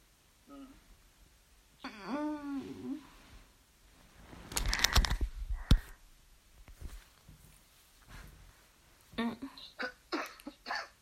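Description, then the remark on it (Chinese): A few harsh coughs and throat-clearing sounds burst out in the middle from a person feeling unwell, after a short moaning vocal sound, followed by quieter rustling and shuffling. “咳嗽什么？”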